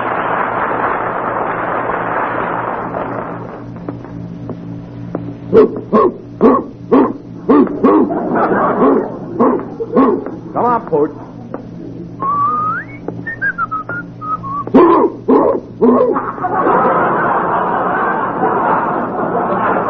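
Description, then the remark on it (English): A big dog, a Great Dane, barks in a rapid run of loud barks, then a rising and falling whistle follows, with a busy rushing background at the start and end. “Oh, wait till Curly sees this great Dane I got him.”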